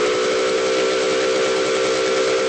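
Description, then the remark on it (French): The steam whistle of a historic riverboat of the Prague river navigation company PPS blows one long, loud, steady blast with a strong harmonic tone and breathy hiss, signalling departure from the Rašín quay on the Vltava in Prague, sustained throughout without any talking. “Le coup de sifflet au départ de notre bateau est donné.”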